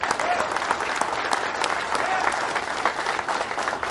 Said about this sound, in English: Give yourselves a round of applause, men.